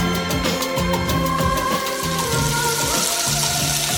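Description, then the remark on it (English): Food sizzles steadily on a hot griddle or frying pan, a sound cue for The Download on WGN: a continuous bright hiss with scattered crackles, while a low, shifting tonal backing hums underneath for the full four seconds. No one speaks. “When you hear that, when you hear the griddle, when you hear the frying pan, you know it's time to put Shark Tank's Steve Gadlin into the frying pan.”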